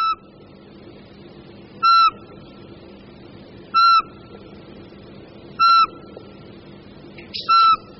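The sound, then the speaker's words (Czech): A Eurasian pygmy owl, the smallest owl in Europe and only slightly larger than a sparrow, gives clear, melodic piping whistled notes, each short and identical, repeated about every two seconds in a steady series of five against a quiet background. “Za tímto melodickým pískáním asi jen málo kdo z vás, myslím, hádal sovu.”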